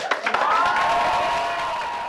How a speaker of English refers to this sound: Yeah, I should say that the applause you just heard after the vote was actually much longer and louder than we can play on the radio yeah, right now.